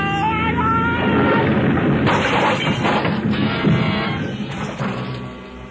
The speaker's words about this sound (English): For a long moment, there was nothing but a vague blackness all about me, and the sound of our crack-up seemed to roll and echo almost dreamily back and forth in the deep recesses of my mind.